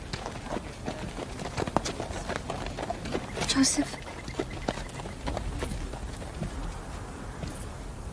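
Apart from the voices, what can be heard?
donkey hooves clip-clopping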